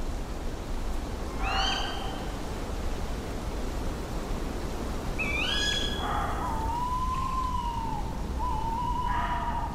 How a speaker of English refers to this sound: Out there, the night is dark. The owl's screech is lonely.